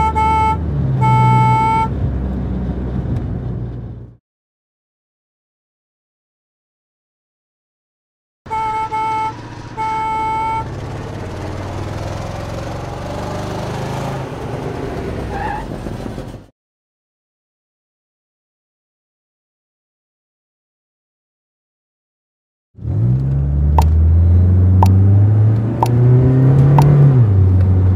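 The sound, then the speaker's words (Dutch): A school bus engine rumbles while its horn honks in short repeated toots, in three separate bursts with silent gaps; the last burst is a revving engine rising in pitch. “Where is the school bus? School bus.”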